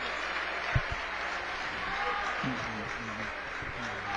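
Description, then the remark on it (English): A basketball crowd applauds Tyler Waltersdorf as he fouls out with 14 points, in a steady, dense wash of clapping that holds evenly throughout, with a man's voice talking over it and a brief thump early on. “Big applause for Tyler Waltersdorf.”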